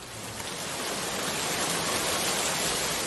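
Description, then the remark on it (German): Steady, heavy rain pours down in a dense, continuous hiss outside the Gare du Nord station in Paris shortly before 10 p.m., loud throughout with no pauses, like a downpour drumming on pavement outdoors. “Strömender Regen.”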